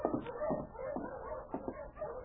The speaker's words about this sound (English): There's a dog team coming in.